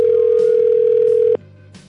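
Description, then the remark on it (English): A steady, unbroken telephone tone at one medium-low pitch hums loudly for just over a second while a call to a Subway store connects, then cuts off abruptly, leaving only a faint background hiss. “Please wait while I connect your call.”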